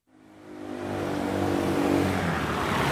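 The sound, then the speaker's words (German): A car engine rises from quiet and grows steadily louder over a few seconds as the vehicle approaches and drives past on the main street of Murten's old town, lined with parked cars on both sides, on a weekday morning around 10 o'clock; its hum broadens into a rolling roar with tyre noise. “Die Hauptgasse ist links und rechts zuparkiert.”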